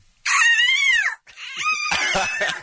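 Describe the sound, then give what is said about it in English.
A woman imitates a hawk's cry: two shrill, screechy calls, the first a long arching wail, the second rising and then breaking into a loud, raspy, rattling end. “This is her hawk sound that we've had to hear all day long today in anticipation of your arrival, so I think it's only fair that you enjoy it as well.”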